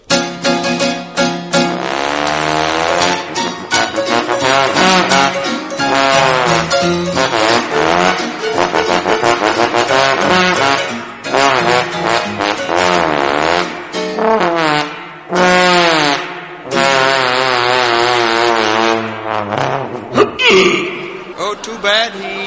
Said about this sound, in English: Now to conclude our show this evening, I know you've all seen and enjoyed our performing seals from time to time, but we have now being prodded out onto our stage one of the world's few trombone-playing whales, the great Blubberlips.